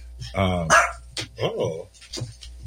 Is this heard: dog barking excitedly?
yes